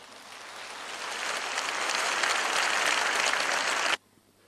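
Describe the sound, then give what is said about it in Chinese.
An audience claps steadily to welcome a guest speaker from Malaysia, the applause swelling slightly over about four seconds before stopping abruptly, leaving a faint quiet room tone. No one speaks. “让我们掌声欢迎。”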